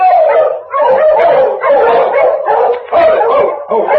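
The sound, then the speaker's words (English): A pack of sled dogs, including one named King, barks and howls in loud, overlapping bursts, about four long surges separated by brief pauses, with no one speaking, in Selkirk. “These dogs look as if they've come a long way.”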